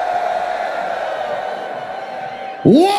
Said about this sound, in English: Put your hands up and on the count of three, scream. 1, 2, 3, scream! 1, 2, 3, scream!